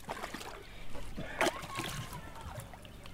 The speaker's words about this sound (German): einen gelben Kanister in den Fluss, lässt ihn voll Wasser laufen. Der schmale Fluss ist ziemlich leer, der Boden in dem Dorf Nana Kenyeba von der Sonne verbrannt.